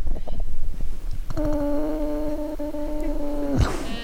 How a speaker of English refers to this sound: Rocket, an elegant male reindeer, spreads out between the first and second rows and spends most of the class making a noise that sounds like snoring.